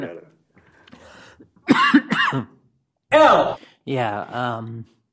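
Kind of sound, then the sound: human body sound, cough and throat clearing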